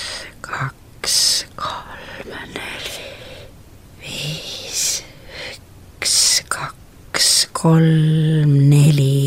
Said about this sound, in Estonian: Jah, ja seda ütleme sellist hingamist siis teha noh, mõned minutid. Et võibolla selline 5-10 minutit on super hea, aga kui juba rohkem seda kasutada, siis piisab paarist minutist.